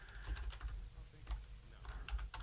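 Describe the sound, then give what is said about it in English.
Soft, irregular clicking of fingers typing on a computer keyboard during a radio show, a quick burst of keystrokes with short pauses, fairly quiet over a low background hum and no one speaking. “I don't want to have a Francesa segment of just dead air and me typing.”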